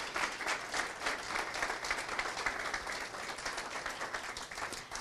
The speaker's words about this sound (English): Can we have a round of applause for them for sharing their stories?